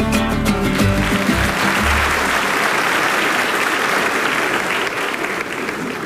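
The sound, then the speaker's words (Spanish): A burst of loud, sustained applause from a crowd, with a few musical tones fading out at the start as the clapping takes over and continues steadily. The applause is a birthday greeting for tío Quique on the show Buenos Días Morelos. “Ahí está la felicitación para el tío Quique, el aplauso.”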